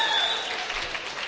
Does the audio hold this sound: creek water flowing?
no